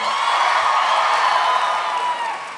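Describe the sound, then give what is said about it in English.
A live audience claps and cheers in a dense, steady wash of applause that stays loud throughout before easing slightly at the very end. “I feel like I got the definite least amount of applause there, but that's fine.”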